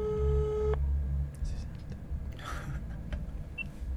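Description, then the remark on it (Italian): A steady electronic phone tone of an outgoing call on speakerphone sounds through a speaker for under a second, then cuts off, leaving low room rumble and a few faint clicks and shuffles. “Vediamo finalmente se in viva voce.”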